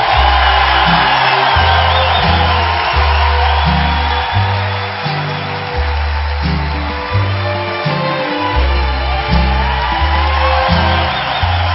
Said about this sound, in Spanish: ¿Y qué pasó con el aplauso? Y un grito, ahora sí.